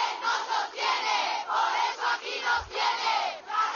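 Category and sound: crowd, protest crowd chanting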